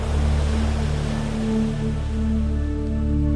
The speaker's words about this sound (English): You run with childlike enthusiasm into the warm, soothing water as the wave crashes over your feet and on your calves.